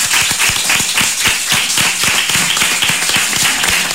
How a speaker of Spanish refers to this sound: Bueno, pues vamos a darle un aplauso a las mujeres de Venga. Renacer, ¿no?